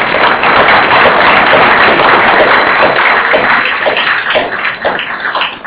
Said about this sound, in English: I'm afraid we're going to have to bring the session to a close. I'd like you to join in thanking our speakers with a round of applause.